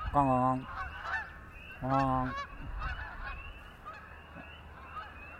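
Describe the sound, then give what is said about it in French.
Geese honk overhead in loud, harmonic calls, two strong blasts followed by fainter overlapping honks from a flock, with a soft outdoor background. “Ah, voilà les vols d'oies qui arrivent, là. Ils vont nous passer au-dessus, on les entend.”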